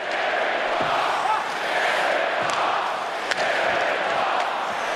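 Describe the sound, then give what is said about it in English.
A football stadium crowd at a game roars in a loud, steady, unbroken wall of noise for the whole stretch, with a brief sharp referee's whistle about two-thirds of the way through. “That was actually from a game. Oh, see, there's the whistle.”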